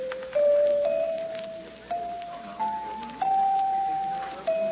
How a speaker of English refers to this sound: Wonder how much these chimes are.